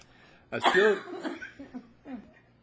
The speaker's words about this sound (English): You should cough like that, yeah, I tell you.